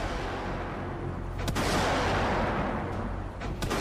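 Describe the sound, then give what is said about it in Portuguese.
Warning gunshots fired from a ship in response to mortar fire from the city during a withdrawal: a few sharp, spaced cracks break through a constant heavy roar, with no voices. “Quando inicia a retirada, a montante é alvo de disparos de morteiros vindos da cidade. Responde com tiros de intimidação.”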